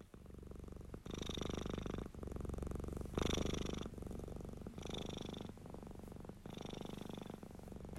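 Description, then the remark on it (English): A domestic cat named Daisy, reclining, purrs steadily, its rumble swelling and easing in a regular breathing rhythm roughly every second, with no other sounds around it. “Lazy cat, would you like a little scratch under your chin while you're reclining there, Daisy?”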